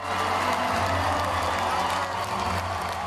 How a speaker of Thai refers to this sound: เสียงเชียร์กึกก้องทั่วคอนเสิร์ตฮอลล์ในการแข่งขันหุ่นยนต์ของนักเรียนระดับมัธยม First Global Robotics Challenge ที่กรุงวอชิงตัน